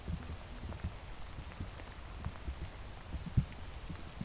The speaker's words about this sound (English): It is raining too hard to carry on, so you will turn back.